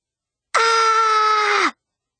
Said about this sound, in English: That was me screaming in frustration. I can't believe I overslept again.